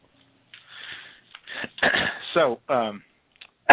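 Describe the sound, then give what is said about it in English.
A person coughs into a phone: a few harsh, breathy coughs through a narrow, phone-like line, mixed with wheezy vocal sounds and sniffs, ending with a sharp, loud burst into the mouthpiece. “I just coughed into the phone.”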